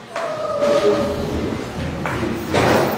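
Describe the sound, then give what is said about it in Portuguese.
A door being closed: a sustained squeaky creak of the hinge, followed by a couple of dull thuds as it shuts, with a low background hum throughout. “Por favor, fecha a porta ali”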